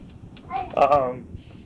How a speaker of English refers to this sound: Is that a cute cat? Is that a cute cat?